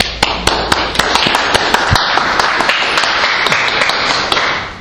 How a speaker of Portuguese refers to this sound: Aplausos.